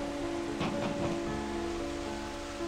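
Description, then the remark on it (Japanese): Steady stormy wind and rain beat against a door, roaring in a continuous wash of noise with a few gusty surges early on; no voices are heard. “戸を叩く風の音と雨の音とはいつまでも衰えませんでした。”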